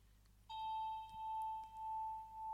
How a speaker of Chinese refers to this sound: 这是我的钟声，我用它来召唤你进入恍惚的状态。在这个过程中，每当你听到我的铃声，就会感觉到自己在下沉。